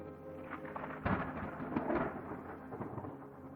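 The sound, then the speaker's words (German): Deep rolling thunder rumbles through a steady wash of rain, with a heavier crack about a second in before the storm settles back into a low, continuous grumble. “Das Gewitter hat sich beruhigt, der Regen aufgehört und ich trete die letzte kurze Etappe für diesen Tag an.”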